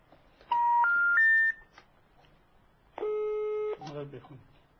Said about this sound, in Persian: ما مجددا تماس میگیریم ببینیم که آیا تلفن ما رو پاسخ میدن. خب ما یه خط دیگر هم باز امتحان میکنیم، یه شماره دیگه